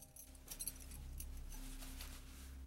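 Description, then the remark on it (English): A soft, brief jingle of keys being handed back, metallic clinks scattered over a couple of seconds against a low, steady background hum, fairly quiet. “Flora gives her back the keys, then opens the door.”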